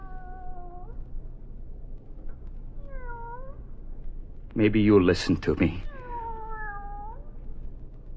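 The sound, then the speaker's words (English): A cat meows several times, drawn-out wavering cries, with a louder strained yowl in the middle, while a person speaks quietly in between. “Will you listen, Kitty?”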